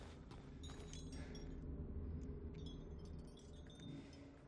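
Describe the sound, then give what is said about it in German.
Light metallic clinks and jingles of a key for a box being handled come in short scattered bursts over a steady low rumble that fills the background throughout. “Der Schlüssel, ist der für die Box?”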